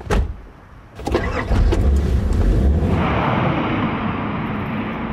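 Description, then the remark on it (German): A brief thump, then a car engine starts and settles into a steady rumble as a mother drives her daughter to school in the short film Der Schulweg, with continuous low road noise. No one speaks. “Wir sehen eine Mutter, die ihre Tochter mit dem Auto zur Schule fährt.”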